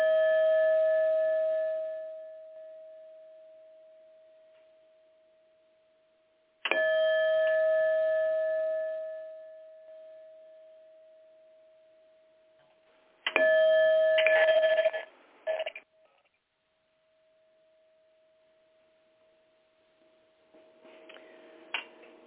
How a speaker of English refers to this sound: And you just heard the sound of the chimes as a reminder to gather our thoughts. It's just to become still and take a long, deep inhale through the nose.